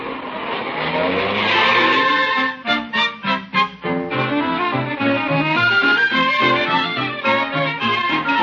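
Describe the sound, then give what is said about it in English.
A car drives along with a loud, whining engine, briefly stutters and squeals as it slows to pull up at a door to let a passenger out, then keeps idling steadily. No one speaks. “I'll let you out at the door, Grace, and go park the car”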